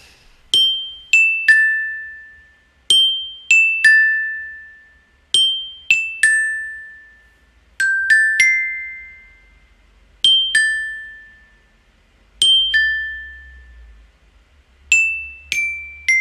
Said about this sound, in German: Passt aber ganz gut, denn die nächsten beiden Schnipsel sind auch auf dem Glockenspiel eingespielt